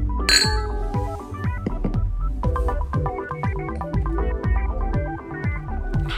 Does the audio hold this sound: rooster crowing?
no